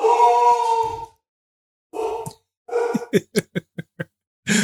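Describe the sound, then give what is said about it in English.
A large female Labrador weighing 80 pounds lets out a long, drawn-out howl, then after a pause gives a series of short, gruff woofs in quick succession, loud. “Sounds like a big-ass dog. Yeah, it's a lab.”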